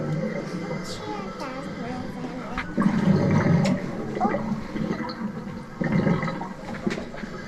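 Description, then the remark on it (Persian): Sea water rushes and churns in a steady, fairly loud wash, swelling noticeably around the middle and again near the end, with faint murmuring voices underneath. “اینجا مثلا صدای دریاست.”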